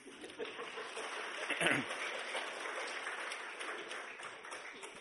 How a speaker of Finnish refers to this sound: Ja nyt saa antaa aplodit.